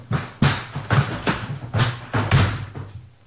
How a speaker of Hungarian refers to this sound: Zárva van. Van hozzá kulcsa? Ehhez az ajtó senkinek sincs. Egyedül csak a gazdámnak. Hát várnivalónk pedig nincs. Betörjük.